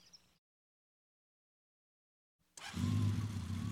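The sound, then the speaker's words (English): After a short sound and a long silence, a motorcycle engine roars to life, settling into a loud, steady, throaty rumble that runs to the end; the motorcycle, in Detroit, has been ridden all the way around the world. “The motorcycle I'm sitting on is a very special one.”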